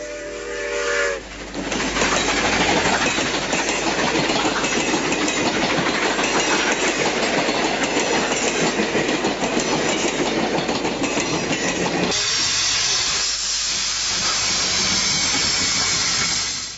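A steam train thunders past at full speed, its wagon wheels clattering in a rapid, steady rhythm, loud, with a brief hiss at the start and a shift in tone near the end.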